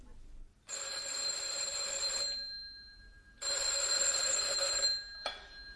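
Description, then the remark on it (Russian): A telephone rings twice after the number of a family's apartment is dialed, each long electronic trill lasting about a second and a half with a pause between, followed by a brief click or start of a third ring cut off. “Я потоптался возле столика, потом снова сел в кресло и почти ощупью набрал номер нашей квартиры.”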